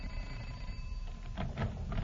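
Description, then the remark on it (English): A doorbell at a house rings in several short, bright bursts over a steady low hum, with no one speaking, rung by someone going from door to door. “We've only rung a little over 200 doorbells. Let's try this house.”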